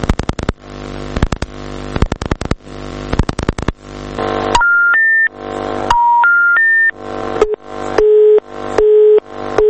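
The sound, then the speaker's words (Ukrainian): Rapid clicks of a rotary or pulse dial come first, then a series of steady electronic tones, ending in repeated short beeps of a busy signal with even gaps. Loud, no voices. A call to the information and public relations service of the Russian Black Sea Fleet, whose line is constantly busy. “Телефон постійно був зайнятий.”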